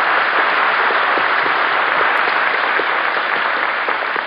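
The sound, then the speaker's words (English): Sustained audience applause for a little actress, a dense steady wash of many hands clapping at a constant loud level throughout, with no voices over it. “I think we ought to give a nice round of applause to our little actress”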